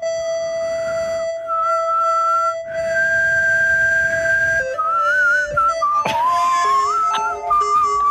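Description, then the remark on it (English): Someone whistles into a microphone, long, wavering notes in harmony against a second steady tone, shifting pitch every second or two and growing busier near the end; fairly loud, with no talking. “And I'm whistling at the same time.”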